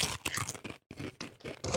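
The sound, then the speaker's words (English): Loud crunching of crisp Japanese curry-flavored potato chips being chewed, a rapid series of brittle crackling bites with a brief pause in the middle, no talking. “All right, let's crunch it off.”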